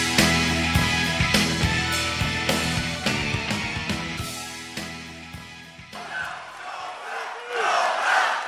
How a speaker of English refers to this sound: In case you missed it, that was the crowd chanting, no bell, no bell, no bell, and an explosion wiping away those chances.